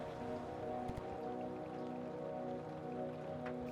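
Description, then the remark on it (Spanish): Steady, soft rain patters continuously as it begins to stop, over a low, sustained tonal hum, with a few slightly sharper drips standing out; no voices. “Por un instante, la lluvia comienza a detenerse.”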